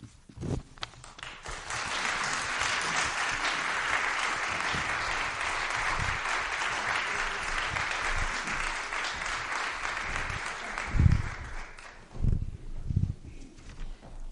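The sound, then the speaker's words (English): An audience breaks into steady applause for a ministerial candidate, many hands clapping together for about ten seconds before it fades out, followed by a few scattered thumps and shuffling. “And friends, in as much as we applaud the candidacy”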